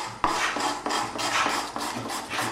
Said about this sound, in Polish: Tutaj dźwięki pracowni stolarskiej.